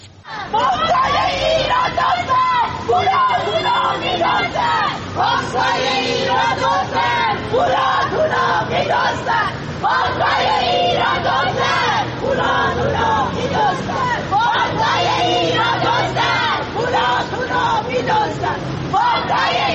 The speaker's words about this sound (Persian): اما باز هم ویدیویی داریم از تجمع اعتراضی مالباختگان مؤسسه مالی کاسپیان.